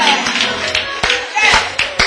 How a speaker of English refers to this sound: I'm happy for you. I'm praising you. I'm giving you applause. I'm patting you on the back.